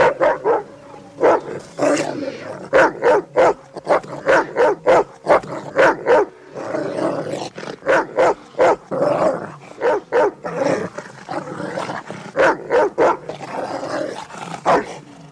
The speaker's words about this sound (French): Ceci annoncé, place au meilleur ami de l'homme, le chien, enfin pas de tous les hommes.